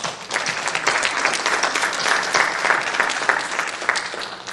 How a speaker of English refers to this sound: And I think we need to show a token of gratitude, and I want you to applaud our church for you that stand and applaud our church for giving.